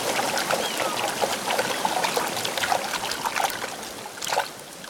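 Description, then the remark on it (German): Water from a small stream gushes and splashes steadily into a new hippopotamus pool after a board blocking the inflow is pulled out. A continuous rushing flow with bubbly bursts throughout, fairly loud, briefly swelling near the end before easing off. “Das Wasser kann in das neue Becken sprudeln.”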